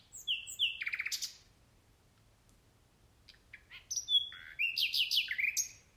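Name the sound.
nightingale singing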